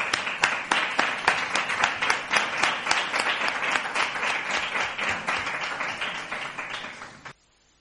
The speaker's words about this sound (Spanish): Un aplauso para todos.